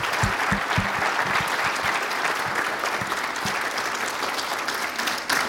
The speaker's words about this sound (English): So that's our class of 2022. Let's give them a round of applause again.